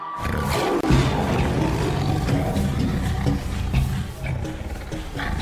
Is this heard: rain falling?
no